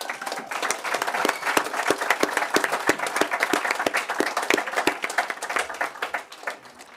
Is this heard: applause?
yes